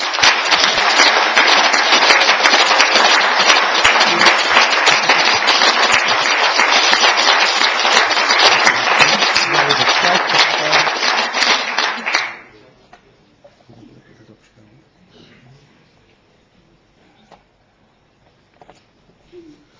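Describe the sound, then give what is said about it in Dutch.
Loud, dense applause from a large crowd, honoring a former Beemster council member and alderman, roars steadily for about twelve seconds, then stops abruptly, leaving near silence with a few faint scattered noises. “En ik zou u willen vragen dat te willen vergezellen van een donderend applaus.”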